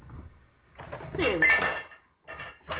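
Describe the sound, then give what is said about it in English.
Ceramic teacups and dishes clatter and knock together in a sink, a busy jumble of clinks for about a second, then a pause and a couple more short rattles. “Well, good grief, why do people do this with the sink so that I can't get the kettle in to fill it up with water?”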